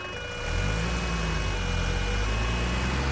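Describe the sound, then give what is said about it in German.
A combustion engine runs steadily, its low, even rumble swelling slightly after the first half second and then holding a constant drone with a faint hum on top. “Kolben runter, Luft rein, Kolben rauf, Luft verdichtet, Explosion. 5000 Mal mache ich das pro Minute, wenn es schnell gehen muss.”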